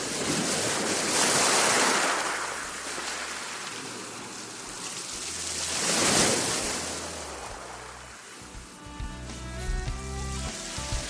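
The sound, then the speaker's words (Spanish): Sea waves roll onto the shore in broad, hissing surges, two big swells cresting and washing back, with a faint tonal background creeping in near the end. “Ese mar que calma, que cura, que emociona, pero que a veces también amenaza e intimida.”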